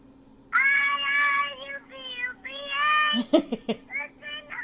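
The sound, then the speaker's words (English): A baby cries in a ringtone clip, in a string of high, drawn-out wails, several in a row with short breaks, fairly loud, then a few choppy sobbing gasps before the wailing resumes. “I think it's a baby.”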